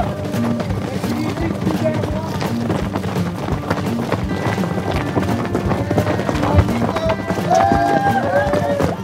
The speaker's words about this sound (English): So all the runners get down into this wash first, come up into this barren desert, and pretty quick, on your right, come the horses. Yeah, it's kind of crazy.